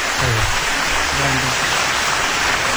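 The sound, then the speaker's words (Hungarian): A steady, dense patter of applause fills the whole stretch, crackling evenly without breaks, with a faint low voice murmuring underneath. “Sokkal halkabb a taps, ez hogy van?”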